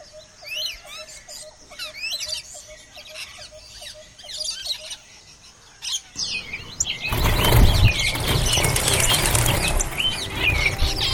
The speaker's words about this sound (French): Et voilà que dans un grand battement d'ailes, les oiseaux disparaissent dans un énorme trou